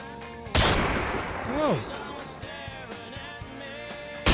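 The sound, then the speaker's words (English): A sudden loud burst of machine gun fire cracks out, followed by a falling, whining tone and a steady ringing hum, then another abrupt blast right at the end. “He has a machine gun.”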